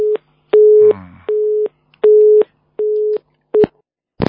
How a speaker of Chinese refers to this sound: 哎呦跳掉了，这电话是有问题。